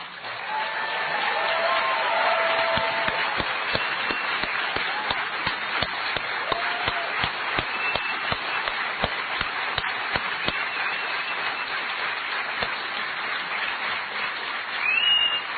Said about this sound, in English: I know there are some of you who felt you didn't applaud enough for Daniel's amazing speech. Here he is again.